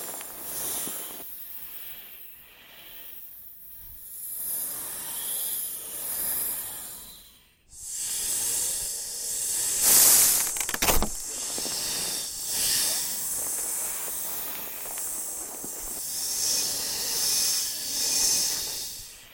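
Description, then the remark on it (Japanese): Snakes hiss continuously in layered, breathy waves that overlap and swell, pausing briefly before a louder burst of hissing returns and persists; no one speaks. “かわいい蛇たちと仲良くしてあげてね。”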